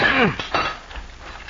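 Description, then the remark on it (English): Metallic clanking of a sledge and crowbar ripping a couple of rails from a railroad right-of-way: a ringing metal strike, then a second sharper clank, both fading quickly into quiet. “Opposed to Cisco, as a rule, were such men as Link McCann and Doc Moran, who, as our story opens, are at work with sledge and crowbar ripping a couple of rails from the railroad right-of-way.”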